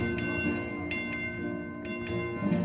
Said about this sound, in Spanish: Suena la campana que da la alerta de un nuevo asedio.